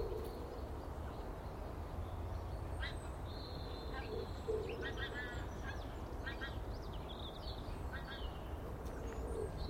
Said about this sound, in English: I hear geese. There they go.